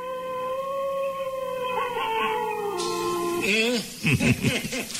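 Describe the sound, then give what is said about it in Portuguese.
A long, steady howl of a German wolf with a slowly wavering pitch holds for a few seconds, then breaks into louder, choppier yelping cries near the end. “E agora, por último, o perigosíssimo e único, o lobo alemão.”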